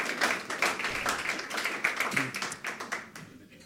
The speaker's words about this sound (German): Du darfst schon mal gerne nach vorne kommen. Genau, ein Applaus.